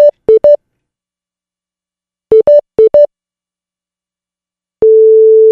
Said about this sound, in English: What you'll hear is you'll hear the special tone, and then you'll hear the European ring, which is different than our ring. But let's take a listen to what it could sound like if you call a cell phone overseas.